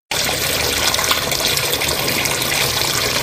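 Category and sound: household object, water running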